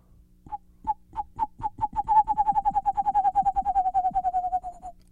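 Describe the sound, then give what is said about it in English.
A person imitates a western screech owl: low, hollow hoots start widely spaced, then quicken into a rapid, steady trill that drifts slightly lower in pitch before stopping. “And then there's the western screech owl, which has more of a low trill.”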